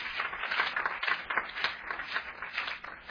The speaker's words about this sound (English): Let me make a statement about the hand clapping that the sister led us in. Clapping the hands, look at Psalms 47. Clapping the hands is a statement.